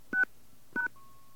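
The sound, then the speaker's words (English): Two short touch-tone keypad beeps sound a fraction of a second apart as random digits are entered for a patient's 7-digit medical record number, followed by a thin, steady electronic tone that holds until the end. Clear, with no voices. “Enter the patient's 7-digit medical record number followed by the pound key.”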